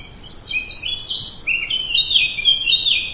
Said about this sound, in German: Vielleicht setzen Sie sich dabei auf eine Bank unter den Bäumen, lauschen dem Gesang der Vögel und lassen Ihre Seele für einen Moment frei atmen.